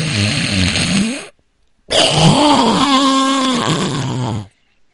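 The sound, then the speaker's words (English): A person loudly imitates a man's snoring with two long, rough, rattling bursts separated by a short pause, the second one longer and more throaty. “It's like, I mean, it is his snoring. I don't know if I can mimic it, but it's kind of like.”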